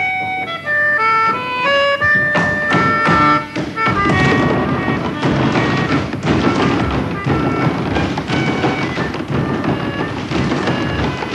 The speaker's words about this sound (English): The thundering sound of wood on wood poured out of every workshop at the Steppers' get-together.